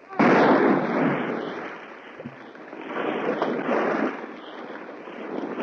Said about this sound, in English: Thus, drunk with glory, Midshipman McKelmy fires the final shot, and the battered, broken corvette sinks beneath the waves.